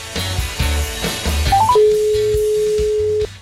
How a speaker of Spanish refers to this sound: Pues ahí estamos llamando a Víctor Fábregas